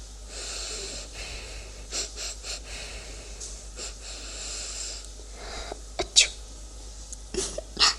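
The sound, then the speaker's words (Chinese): A string of short, breathy sniffs from someone smelling a person's feet repeats in uneven bursts, followed by two sharper, louder sneezes toward the end, with soft breathing between them. “怎么样，姐姐，味道如何呀？受不了吗？还打喷嚏了？”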